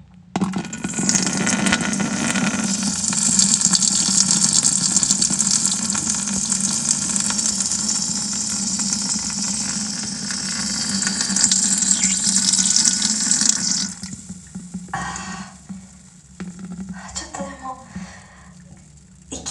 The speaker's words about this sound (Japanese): お尻ちょっとバケツの上にもう乗せちゃって、この上に座る感じで、バケツの上に、おしっこしていこうと思います。あ、出る出る出る。